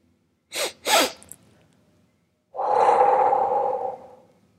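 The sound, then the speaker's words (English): A breathing exercise: two quick, sharp sniffs of breath drawn in through the nose, a brief pause, then one long, steady breathy exhale through the mouth, clear with no talking. “Take 2 quick breaths in through your nose. and one long exhale out through your mouth.”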